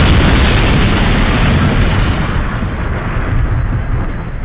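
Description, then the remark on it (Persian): A missile striking the ground and exploding, with smoke rising: a loud, deep, continuous roar of rumbling noise that fills the whole clip, heavy in the low end and easing off only slightly toward the end. No voices. “یه چیزیه که وقتی میخوره زمین بوم بی صدا میده و دود بلند میشه”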